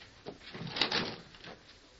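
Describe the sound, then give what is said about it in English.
An unlocked cabin door is opened with a short scraping, rattling sweep that swells and fades over about a second, at moderate volume with no voices. “Open the door, Sheriff. It's unlocked.”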